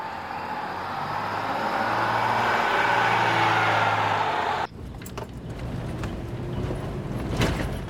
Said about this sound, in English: Are you trying to hit every pothole in this road? I'm doing my best.